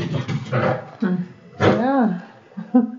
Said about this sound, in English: Hey, whoever listens to this tape in the future is going to hear this. This is Joshua the dog playing with his dolly in the background.